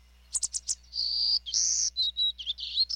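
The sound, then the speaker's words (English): A golden-cheeked warbler sings: a quick run of high, buzzy notes followed by longer sustained buzzes and short trills, bright and clear over a faint low hum, with no voices. “Golden-cheeked warblers can't survive without healthy, mature woodlands, but deforestation has destroyed and fragmented much of their habitat across the Americas.”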